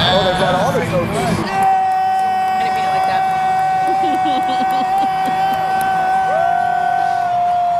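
A man yells and whoops loudly in a sustained, high-pitched celebratory scream at a Super Bowl champions' celebration, with a noisy crowd-like roar underneath and a few shouts at the start.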